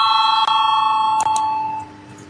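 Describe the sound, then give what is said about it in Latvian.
An electric parliamentary voting bell rings before a vote, continuously with a bright, steady metallic tone, loud, with a couple of brief clicks before it fades out near the end. “Lūdzu, zvanu”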